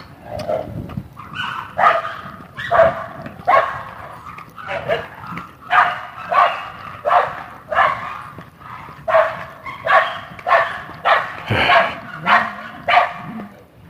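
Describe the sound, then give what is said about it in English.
Dogs bark repeatedly in a steady run of sharp, loud barks, roughly one or two per second, with a few yips mixed in and no talking. “the dogs. Can you hear them? How could you miss them?”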